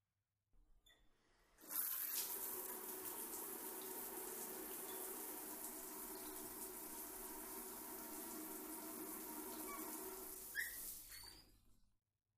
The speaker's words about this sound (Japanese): シャワーで流すよ。